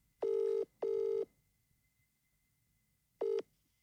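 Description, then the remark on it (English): A phone line ringing out as a call is placed to a prize winner: a steady electronic ring tone sounds in a quick double pulse, pauses, then starts another ring that cuts off. No one speaks. “We're so going to phone her, and she's won a pair of tickets for her and his friend.”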